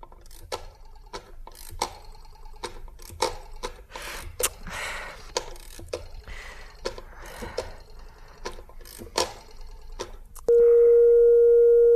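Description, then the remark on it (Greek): A rapid series of mechanical clicks and whirs, like a rotary phone being dialed to call a number, followed near the end by a loud, steady busy signal because the line is engaged. “Μα τι να πάθε το τηλέφωνο του Έλμπερτ? Για να δοκιμάσω πάλι.”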